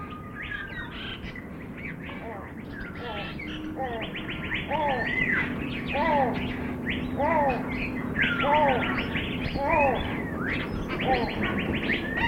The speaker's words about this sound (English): As you come into the aviary, you can experience what it's like to walk into a tropical rainforest and start hearing the birds, the whole repertoire of songs and singing.